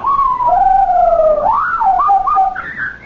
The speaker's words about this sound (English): What? Whatever is that? It's Napoleon. He's telling me, you've been back home for an hour, why don't you uncover me? I'll take its cover off. I never heard a parrot make a sound like that before.